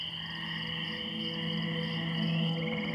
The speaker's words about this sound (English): The room warms, and her humming becomes a song, croaked in a deep voice that melds with the songs of the swamp outside.